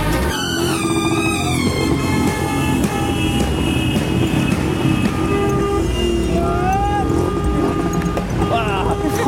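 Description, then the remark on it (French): Average daily city street traffic in Delhi roars continuously, with engines rumbling, scattered horn blasts and tonal honks cutting through the dense, loud din, and voices faintly mixed in. “Juste pour vous donner une idée des conditions de circulation moyenne, quotidienne, ici à Delhi.”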